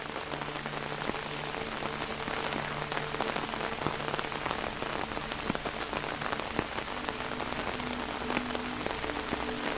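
rain falling

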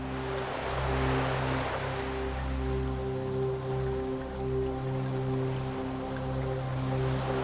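ocean waves breaking

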